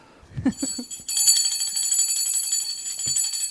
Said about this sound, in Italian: Chi suona la campana? Armando che sta suonando.